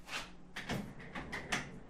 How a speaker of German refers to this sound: Ich habe meinen Stuhl mal weggeschoben.